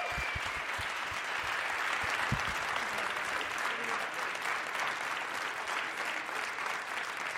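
A crowd claps for a contest winner called to the front, a dense, even wash of applause that holds at the same strong level for several seconds without letting up.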